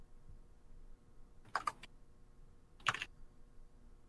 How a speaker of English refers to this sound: Oh, something's happening. That's just, typing.